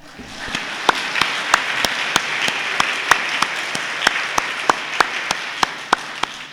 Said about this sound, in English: May I have a round of applause?